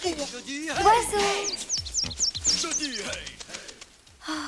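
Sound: small bird chirping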